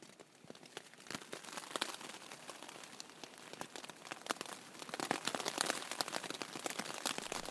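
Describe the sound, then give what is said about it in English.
Rain patters steadily on tent fabric during an overnight hike, having started about 2 a.m., a dense crackle of irregular taps that builds slightly louder toward the end, with no voices. “Hear that? It's rain falling on my tent, and it started about 2 a.m.”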